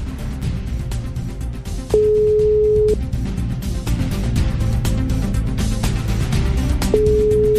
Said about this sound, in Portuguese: Vai, Manuel, atende o telefone.